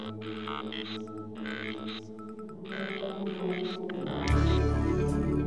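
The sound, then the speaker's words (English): Whale song: a few repeated tonal, harmonic calls in short bursts, then a louder, deep rumbling swell that fills the last second, with no voices present. “Whales. Now is this sperm or blue tip?”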